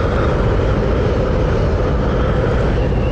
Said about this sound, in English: And I get out of the wind and the rain and into his car, which is barely shielded from the wind and the rain.